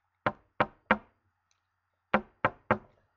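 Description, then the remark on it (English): Two sets of three sharp knocks on the door of Tom's home, evenly spaced, with a short pause between the groups; no voices. “Let's knock at the door.”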